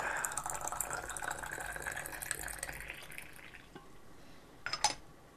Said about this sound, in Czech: Už se otvírá termoska a Nela nalévá do konvičky horkou vodu.